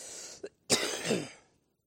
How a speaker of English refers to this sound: All right. We're going to battle this cough together.